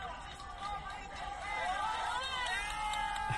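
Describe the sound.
A large crowd at a wrestling match in New Jersey roars and chants together in a steady, sustained din, voices blending into a loud wall of sound that swells slightly toward the end.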